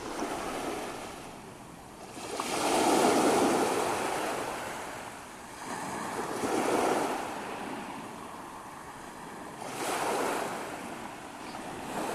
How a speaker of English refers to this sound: the waves were just as if someone had turned the volume down. I can still hear them, but softly